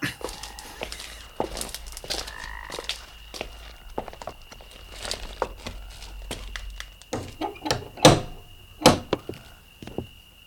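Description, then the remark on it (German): Footsteps shuffle up, then a few sharp, solid knocks land on the wooden door of a house near the end, loud, with no talking. “Naja, ich klopfe mal.”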